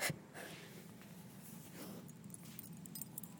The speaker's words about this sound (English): Now he's being a sniffy dog. He's sniffing my floor. There's no crumbs there.